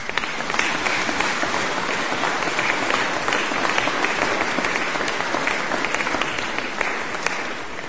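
Sustained applause from a sizable audience for the mayor, at a gathering about donations for the church renovation in Podčetrtek, Slovenia; dense and steady clapping that fills the whole stretch at an even, fairly loud level with no voices breaking through.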